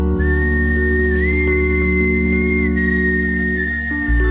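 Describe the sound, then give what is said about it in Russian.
A sustained, clear whistled melody line glides smoothly between held pitches over a steady instrumental backing of bass and accompaniment, the whistling prominent throughout; an artistic whistling solo by the band's leader, a tenor saxophonist, in a piece from the band's album. “И в этой пьесе как раз имеется потрясающее соло художественного свиста лидера группы”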